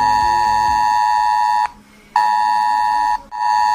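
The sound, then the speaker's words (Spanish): A loud, piercing emergency alert tone from a mobile phone blares in long sustained bursts, cutting out briefly and resuming twice, with no voices present; a drill testing the Spanish Interior Ministry's new mobile phone alarms, heard on phones across Spain. “Así que el pitido que estos días se está escuchando en celulares de toda España como simulacro.”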